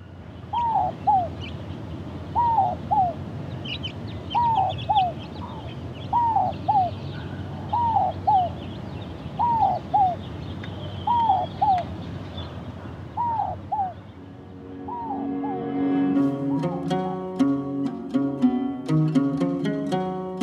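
A park bird sings a clear, repeated two-note phrase at a steady pace, close and prominent over a soft background hum, before plucked music takes over in the final seconds.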